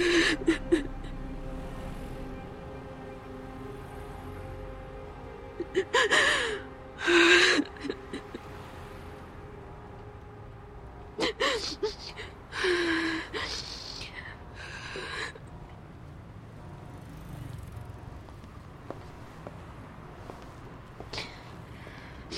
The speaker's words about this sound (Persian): چی شده؟ چرا گریه میکنی؟